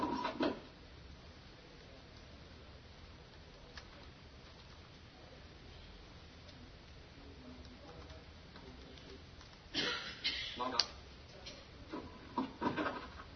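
Clicks of computer keyboard keys as Control-Alt-Delete is pressed on a Windows computer, a brief pair near the start and then a quick clustered flurry of presses near the end, fairly crisp over a quiet hum.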